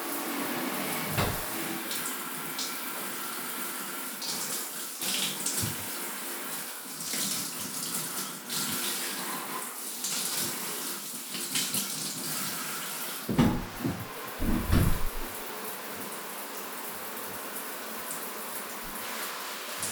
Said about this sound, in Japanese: じゃあ一緒に入りましょうか。シャワー取りますね。